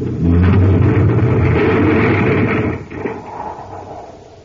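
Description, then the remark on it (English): In the radio show Space Patrol, a tunnel car crashes into debris after the tunnel entrance is blown up: a loud, rumbling roar of engine and grinding noise holds for a few seconds, then drops sharply to a quieter rattling tail. No voices. “Our tunnel car is going to crash right into the debris.”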